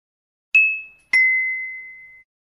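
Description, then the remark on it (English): A bell rings twice, two bright, clear dings a moment apart, the second sustaining and fading out longer than the first, with silence around them and no voices. “He is having lunch, but the bell rings.”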